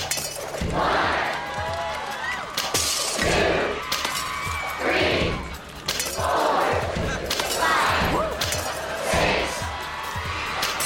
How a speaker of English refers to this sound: see those glasses over there? I'm gonna use just a rubber band and some peanuts to break all 10 glasses. Yeah, broken glass. Here goes.